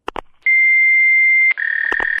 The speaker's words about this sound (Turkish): Şu anda telefonunuza cevap veremiyorum. Sinyal sesinden sonra mesaj bırakın.